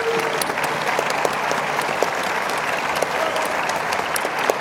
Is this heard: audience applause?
yes